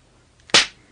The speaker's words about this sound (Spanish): Primero 13 latigazos le hirieron el pecho a Pablo. Luego 13 más le laceraron el hombro izquierdo. Finalmente 13 más le rasgaron el hombro derecho. Los latigazos le cortaron la espalda y el pecho profundamente.